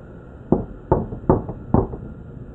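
Four firm knocks on a front door in a steady, evenly spaced rhythm, each a sharp thud with a short wooden ring, fairly loud with no voices.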